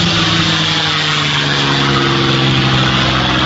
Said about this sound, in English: He flew Old Yeller, and I'll always remember the sound and the yellow P-51 Mustang.